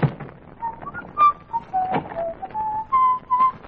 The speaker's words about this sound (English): you whistle like a canary.